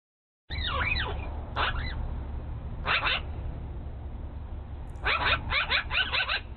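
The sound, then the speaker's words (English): Magpie chirping calls in a few bursts of rapid, high, scratchy chatter, with gaps between and a louder cluster at the end, over a steady low background rumble. “Yeah, dude, but like at the very beginning of the video, it makes like this weird little chirpy sound that like straight up sounds like a raptor.”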